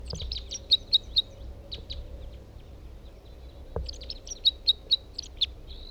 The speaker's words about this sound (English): Here he is again. That's a different bird.